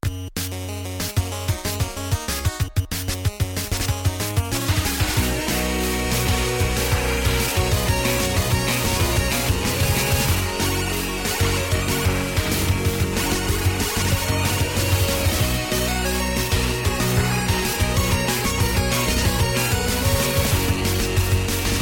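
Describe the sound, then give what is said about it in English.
A muffled band rehearsal with electric guitar plays steadily and faintly through the wall, dense and droning with a heavy low end and constant strumming, continuing throughout with no talking. “Getting the guitar rehearsal background.”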